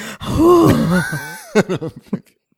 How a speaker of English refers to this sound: There's a lot of breathing. In it. There's a lot of heavy breathing. Because the guy's gasping for air when you start running out of oxygen.